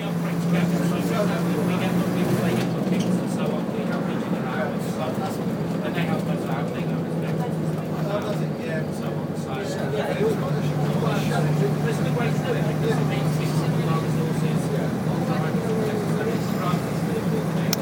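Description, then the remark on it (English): A bus engine drones steadily with a low, even hum and rumbling road noise throughout, while people chatter faintly in the background. “Anyway, I think you get the idea with this bus, so I'll pause this here and we'll be back with another one later on.”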